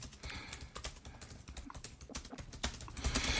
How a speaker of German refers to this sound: Auch mal gerade tippen ja, hier in den Chat.